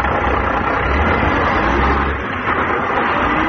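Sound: bus engine idling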